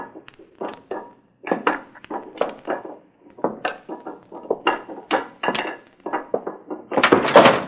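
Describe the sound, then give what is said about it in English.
A pickaxe tearing out a wall above a fireplace at night: a steady run of sharp, clinking strikes with crumbling debris, about two blows per second, growing heavier and denser at the end. No voices. “He's tearing out the wall above the fireplace”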